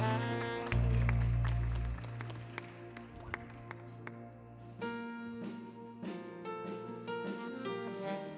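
An audience at a church service claps as a clap offering to the Lord, a scattered run of sharp hand claps over sustained keyboard chords and a heavy low bass swell near the start, continuing steadily for several seconds.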